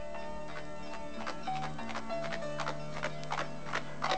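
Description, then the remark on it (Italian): Steady clip-clopping of a horse's hooves as it is ridden slowly home at dawn with two riders on its back, a run of evenly spaced sharp knocks at a moderate walking pace, over a soft sustained musical background with no talking. “Sali sul mio cavallo.”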